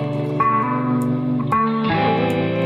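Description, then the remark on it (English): Sustained, steady music intro chords given a muffled, vintage-filtered tone with stock Ableton plugins and a slightly distorted character, shifting harmony a few times over a few seconds with no drums or voices. “I'm just going to drag Lo-Fi Sauce, which is 100% stock Ableton plugins, to create vintage colors and tones.”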